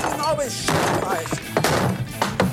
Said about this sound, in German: Und deswegen mache ich jetzt hier diesen Tisch mal kaputt, ja?